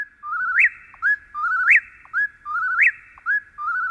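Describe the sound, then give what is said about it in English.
A whippoorwill sings its loud, clear whistled call over and over, each rolling three-part phrase ending in a sharp upward snap, repeating steadily about once a second with no other sounds. “In September of 1851, Henry David Thoreau wrote, "The whippoorwills now begin to sing in earnest about half an hour before sunrise, as if making haste to improve the short time that is left them.”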